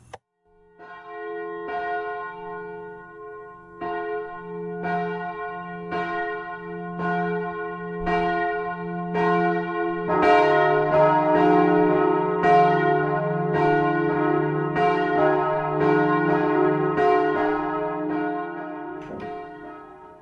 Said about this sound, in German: Und als Einstimmung und Einleitung in die Weltfriedenswoche 2018 hören wir jetzt zuerst einmal die Kirchenglocken läuten von der Friedenskirche Bern.